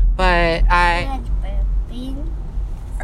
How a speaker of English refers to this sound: Are they gonna put … burp in the podcast?